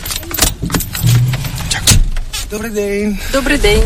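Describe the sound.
Clunks and rattles inside the cab of a heavy truck on a driving-licence exam track on the outskirts of Kyiv, Ukraine, during a heavy-vehicle licence training course. After the instructor checks the seatbelts, the learner driver starts the engine, which cranks and rumbles to life, settling into a steady low drone, with faint voices underneath.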